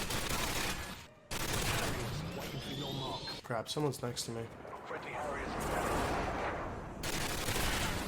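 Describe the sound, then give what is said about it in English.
Video game gunfire from an FAL rifle fired single-shot: a run of sharp, loud shots in quick succession over a dense wash of game noise, while a man speaks briefly. “I guess just single shot this, right? Like it's an FAL.”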